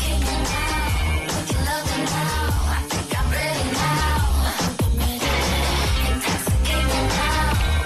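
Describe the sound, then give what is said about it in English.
A loud, dense pop track with heavy bass and a steady beat, a dog's vocalizing remixed into it as the melody, running continuously throughout. “And when you combine the two, this is what happens.”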